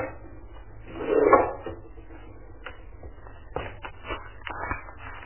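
A drawer slides open with a short wooden scrape, followed by soft rummaging, light knocks and clicks as items are shuffled around inside, fairly quiet, as an envelope, a stamp and a pen are sought in it.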